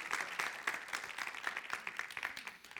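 A group claps together as praise to the Lord, a steady, rapid patter of overlapping hand claps, sustained and fairly even in loudness for a few seconds, with no voices standing out.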